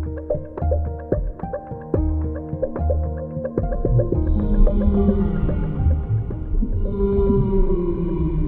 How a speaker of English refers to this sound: And that was whale song, so I'm going to make a wild guess here and say that this week's animal is a whale?